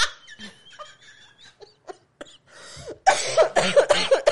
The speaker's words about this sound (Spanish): esa tosecita.